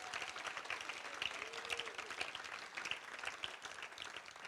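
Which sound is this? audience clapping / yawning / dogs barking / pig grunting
audience clapping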